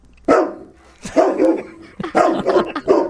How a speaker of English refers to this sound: That sounds like a happy dog.